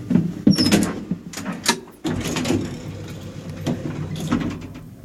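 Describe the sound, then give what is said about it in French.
An elevator door slides with a mechanical rumble, punctuated by a few sharp clunks and rattles, moderately loud with no one speaking. “Dans l'ascenseur, j'ai rallumé mon portable et je trouvais ce message sur ma boîte vocale.”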